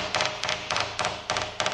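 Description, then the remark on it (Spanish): Light metallic taps from a small hammer striking a helicopter rotor blade to inspect it, coming in quick clusters of two or three hits with brief pauses between, each tap sharp and bright. “Se hace con un pequeño martillo. Es al mismo tiempo que observamos la pala, vamos golpeándola.”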